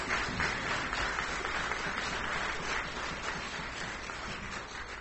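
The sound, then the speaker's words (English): Steady applause from an audience for Awana workers and students fills the whole five seconds, a dense wash of many hands clapping at an even, moderate loudness with no voices over it. “Let's give all our Awana workers and students another round of applause.”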